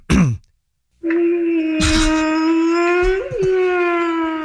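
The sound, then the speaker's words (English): A short descending cry, then a loud, steady, drawn-out whale-like moan that holds one pitch for several seconds with a brief wavering rise near the end. It is clear, with no talking. “I see how it's a whale.”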